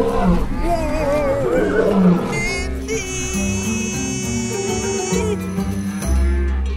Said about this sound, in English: Whoop! Watch your butts, everyone! There's a lion on the loose!